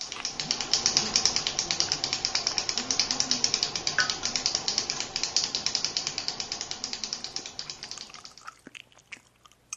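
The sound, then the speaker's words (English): A pen is clicked rapidly and repeatedly, a dense, steady stream of sharp mechanical clicks that slows and thins out near the end. No one speaks. “Okay, people chewing, clicking their pens, gum snapping, and water dripping.”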